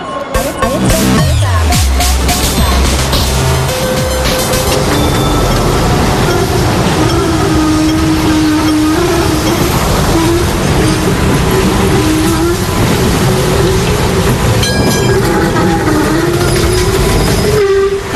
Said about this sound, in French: Nous avons quitté le métro de Hong Kong, Florence de Changy, pour monter dans un tram.